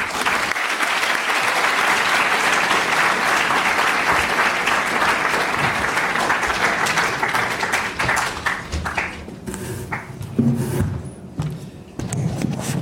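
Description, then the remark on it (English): Sustained audience applause welcoming Pablo, a former governor of the Bank of Spain, before his lecture, a dense wash of many hands clapping at steady loudness for about ten seconds, then thinning out into scattered claps and faint shuffling at the end. “But for now, just join me in welcoming Pablo with an applause.”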